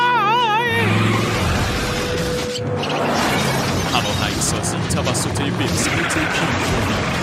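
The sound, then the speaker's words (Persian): A truck engine runs continuously at a steady, loud rumble while the truck is being driven, with people talking over it about its gears and brief clattering noises mixed in throughout. “این کامیون چه لحظه دنده داره؟ کجا چیه؟ اگه اینقدر عجله داری خودت بیا بشین پشت فرمون.”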